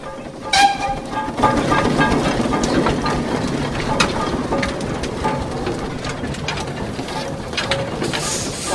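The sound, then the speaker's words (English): A big steam engine at the back of a street procession, behind marching groups and Sea Cadets, rumbles and clanks steadily as it gets ready to roll, with hissing, rattling metal and a brief whistle-like tone near the start, loud and continuous throughout. “Then at the back of the marching groups we have the Sea Cadets and then the big steam engines getting ready to roll.”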